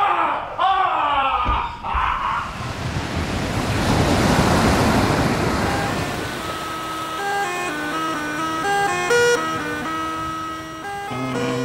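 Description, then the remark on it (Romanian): Roaring storm wind and crashing sea waves form a loud, steady wash of noise, then sustained musical tones rise over the fading roar in the second half. “N-am văzut un cer atât de negru în plină zi. Ce vuiet fioros!”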